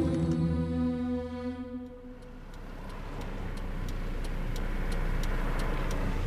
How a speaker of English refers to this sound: I'm in the car on the way to Porirua.